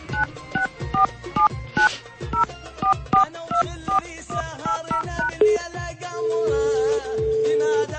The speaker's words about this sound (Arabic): وهذه رسالة قصيرة عبر الهاتف من مستمع يطلب الاتصال بي للحديث عن هموم اللاجئين. خلينا نحاول الاتصال هذه المرة.